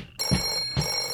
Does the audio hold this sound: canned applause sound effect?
no